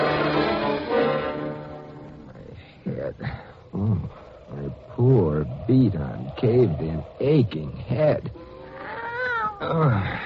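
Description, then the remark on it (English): A cat, Kitty, lets out a loud, drawn-out yowl after being stepped on, followed by a string of shorter, wavering cries and mewls coming in quick uneven bursts. “Oh, I'm sorry I stepped on you, Kitty.”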